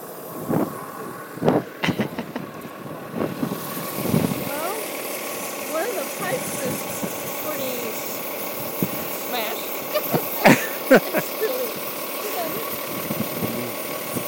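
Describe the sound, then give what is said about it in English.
A large double-decker bus engine idles with a steady rumble, punctuated by a few sharp knocks and clatters, while indistinct voices murmur in the background. “And that we have a big bus. There's another bus that came through.”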